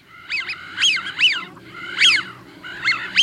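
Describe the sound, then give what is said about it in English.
A flock of American wigeons calls in overlapping bursts of breathy, whistled notes from several birds, with a low steady rumble underneath and no one talking. “it's easy to learn more about American widgeons on our website”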